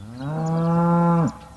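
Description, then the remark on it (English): A single long, loud cow moo, rich in harmonics, holding steady for just over a second before cutting off abruptly. No one speaks. “Over the years, humans have settled just about everywhere and brought with them cows.”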